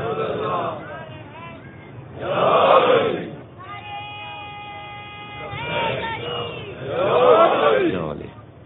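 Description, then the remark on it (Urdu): A crowd chants the salawat, a salutation upon Muhammad and his family, in unison, swelling in loud collective bursts with quieter murmuring between, as many voices rise together three times. “دیکھیں یہ تو اہانت ہو جاتی ہے تھوڑی سی، کہ یا تو نعرے سے رخصت لیں یا پھر ایسا لگائیں کہ شان کے مطابق.”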